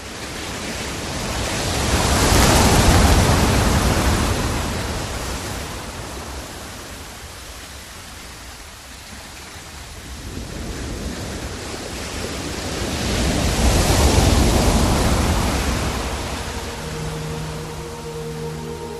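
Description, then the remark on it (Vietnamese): Rough sea in a second violent storm at about 12 degrees 18 minutes north latitude: heavy waves surge and crash in two big swells, with constant roaring wind and spray filling the gaps between them, loud, with no voices. “Đương ở vị trí 12 độ 18 phút bắc vĩ độ, chúng tôi lại vấp phải một cơn bão thứ nhì hung hãn không kém cơn bão trước.”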